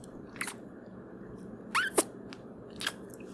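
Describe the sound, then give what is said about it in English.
A handful of short, wet kissing smacks made with the mouth, one with a brief squeaky pull, spaced irregularly over a quiet background hiss. “My kissing sound sucks ass.”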